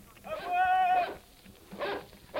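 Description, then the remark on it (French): A large dog on a moor lets out one short, drawn-out howl at moderate volume, followed by brief bursts of voices. “Il y a bien un chien sur la lande.”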